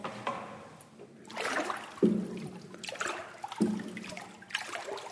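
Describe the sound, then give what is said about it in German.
Water trickles and splashes steadily as it drains through a sieve during hand papermaking at Steirermühl, Austria, leaving cotton fibres on the sieve, with gurgling bursts and a couple of soft knocks, moderately loud, no voices. “Wasser rinnt durch Sieb ab, Fasern bleiben am Sieb oben liegen.”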